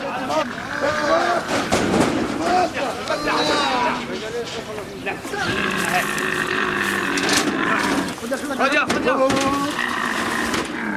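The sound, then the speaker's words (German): A single camel bellows in distress as it is led away from its herd: loud, gurgling groans rising and falling in pitch, repeated and overlapping almost without pause for about eleven seconds, with rough rumbling between the cries. “Einzelne Kamele setzen dagegen zu einem verzweifelten Geschrei an, sobald sie von der Herde weggeführt werden.”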